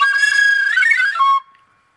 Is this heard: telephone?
no